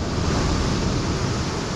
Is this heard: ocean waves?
yes